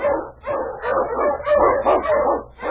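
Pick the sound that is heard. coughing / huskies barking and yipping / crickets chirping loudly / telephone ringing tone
huskies barking and yipping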